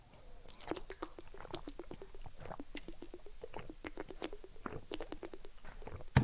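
Quiet, irregular wet mouth sounds of several people drinking together during a short drinking break: soft sips, swallows and little clicks follow one another steadily with no talking, ending on a slightly louder knock.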